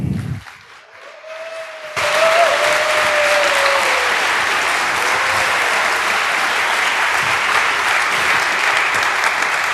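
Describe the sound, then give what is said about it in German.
An audience breaks into loud, sustained applause welcoming a speaker to the stage for a talk after a brief quieter moment, the dense clapping continuing steadily for several seconds with a faint whistle-like tone rising briefly early on. “Einen großen Applaus für Linus.”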